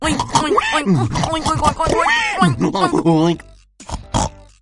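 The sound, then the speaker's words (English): A person imitates a pig, voicing a string of nasal, grunting oinks in quick succession, fairly loud, with a brief pause before a final short burst. “Oink, oink.”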